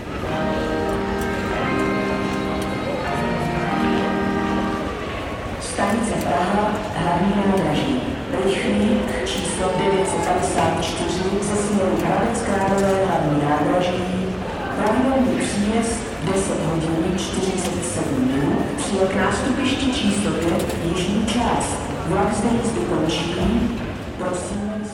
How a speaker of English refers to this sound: this is an announcement sound from the Prague railway stations. And he says that it's actually the opening bars from Bedřich Smetana's tone poem, Má vlast, which means my homeland.